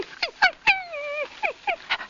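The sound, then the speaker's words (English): A man's voice imitates Asta, the wire-haired fox terrier of the radio show The Adventures of the Thin Man, begging for attention: short, high, pleading whines, then one long drawn-out whine, then more quick whimpers, clear with no other sounds. “Asta begs for attention.”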